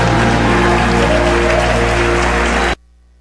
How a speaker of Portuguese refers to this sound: Se você crer, diga aleluia e aplauda o Senhor Jesus.